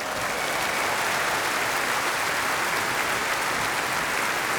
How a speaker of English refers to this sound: And a special thanks to the city of Maastricht who helped us so enormously. Give them an enormous applause.